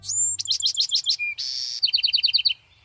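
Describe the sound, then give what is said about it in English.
A Bewick's wren sings a bright song: an opening whistle, a quick run of repeated notes, a short buzzy burst, then another rapid trill of chirps. No voices are heard. “Take the Buick's wren, for example, a sweet-singing wren residing throughout much of the western U.S.”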